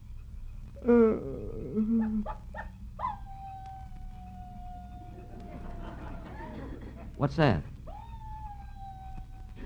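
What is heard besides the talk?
coyote howling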